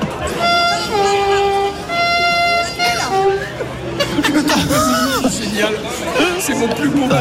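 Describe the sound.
A voice imitates a high-speed TGV train horn: two long, steady, buzzy tones, the second shorter, before a crowd's lively chatter and exclamations take over.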